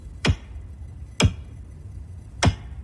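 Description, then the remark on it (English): Three sharp, bright taps of a man's knife tip on a piece of metal under splintered wood, spaced about a second apart, each a quick ringing tick over faint background hiss with no voices. “He taps it with the tip of his knife.”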